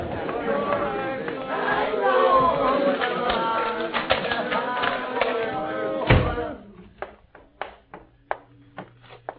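A door opens with a solid thump amid a murmuring crowd as someone opens it to see who is shouting; afterward the hubbub drops away, leaving a few sharp clicks and knocks.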